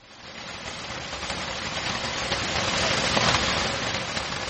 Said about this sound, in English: Heavy rains have been pouring ceaselessly, destroying houses and farms in the northern Cameroon village of Kaikai over the past 2 weeks. Residents say the downpours caused Lake Maga and the Logone River to overflow.